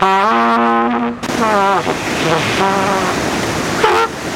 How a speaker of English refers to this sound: What is he pulling out of that gunny sack? It's his trumpet. Watch this.